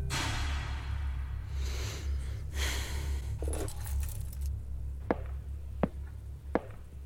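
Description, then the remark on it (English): A bunch of keys to a Toyota jingles and rattles for several seconds as they are picked up, over a low steady hum, followed by three sharp, evenly spaced clicks. “Either walk out of here right now, or pick up the keys, go out back, and get in the Toyota.”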